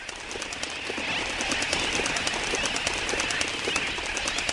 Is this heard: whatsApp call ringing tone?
no